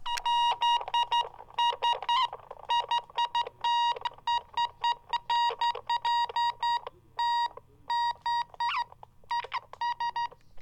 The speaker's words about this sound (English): And let's test the transmission of the Morse code key. Oh boy, they're making crazy noise. Maybe it's just too close. Yeah, just that was feedback. But yeah, we've got Morse code through the airwaves.